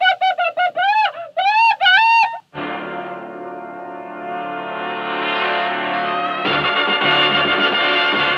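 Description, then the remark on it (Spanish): A hen squawks frantically: a quick series of short, sharp rising-and-falling squawks, then one long, harsh, unbroken cry that holds for several seconds. No one speaks. “Pero cuando la gallina Kika regresó al nido y se encontró sin ningún huevo, comenzó a chillar como una loca.”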